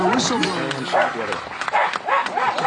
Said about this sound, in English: The dog's barking at everybody.